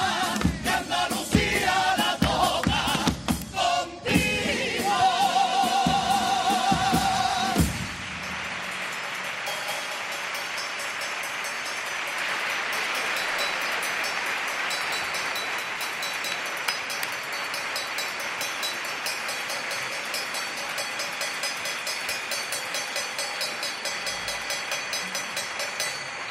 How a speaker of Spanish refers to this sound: Bueno, pues hemos querido dejar ese sonido de campana que hacía el cajilla de la agrupación en los platos del bombo, simulando que toda Andalucía ha tocado la campana y se ha alegrado de la mejoría de salud, evidentemente, de Manu Sánchez,